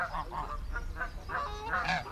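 A run of loud, nasal Canada goose honks trumpets in quick, uneven succession, several birds calling over a low rumbling background, with no one talking.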